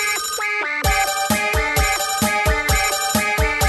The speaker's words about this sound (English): I didn't realize he came with music. It's the phone. It's the devil's phone.